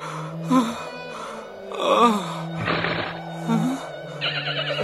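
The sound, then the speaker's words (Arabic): A horse in a desert neighs loudly several times in a row, a series of shrill, wavering whinnies with snorting breaths between them, without any talking. “ما بك أيها الحصان؟ أتحاججني أم توافقني الرأي؟”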